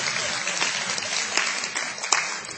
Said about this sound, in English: So give a round of applause to yourself.